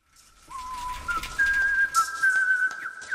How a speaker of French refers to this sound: Entendez-vous cette jolie mélodie ? C'est Pitocha qui sifflote pendant qu'il met au point sa dernière invention.